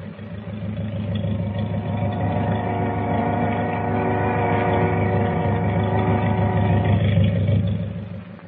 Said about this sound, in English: Wait a minute. What's that? Sounds like motors. It is. Hey, the boat's moving. She's pulling out.